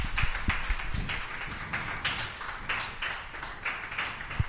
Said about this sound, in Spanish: Bueno, ahí lo podéis escuchar, que aunque dé al interior, aplaudimos.